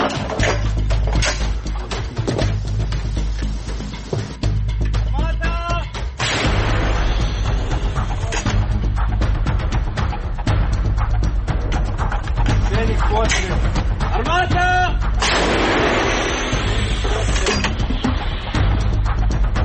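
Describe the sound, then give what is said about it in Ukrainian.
Repeated heavy anti-aircraft gunfire booms in rhythmic bursts from Ukrainian forces on the Kupiansk front, over a constant low mechanical rumble, with sharp percussive shots recurring throughout and voices shouting faintly in between. “Армата! Зенік постріл.”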